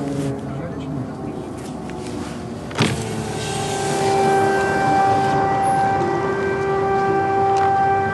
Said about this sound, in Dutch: Het is echt heel bizar, maar ik zit in een taxi. Wat misschien ook niet helemaal veilig is en het luchtalarm gaat af hier in Lviv. En helemaal niemand reageert erop.